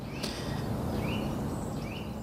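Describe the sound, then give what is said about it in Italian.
A Eurasian nuthatch sings a few clear, whistled notes spaced across the moment, fairly faint above a steady outdoor background hiss, with no one talking. “Questo che canta, che si sente bene, invece è il picchio muratore.”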